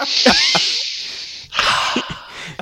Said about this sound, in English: Sorry, I had to remember to breathe there.